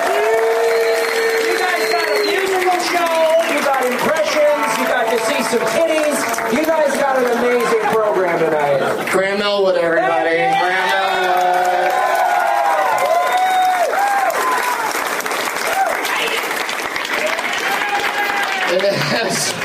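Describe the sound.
An audience breaks into sustained applause mixed with loud cheering, whoops and shouting voices, a dense, continuous roar of clapping and yelling that holds steady for the whole stretch.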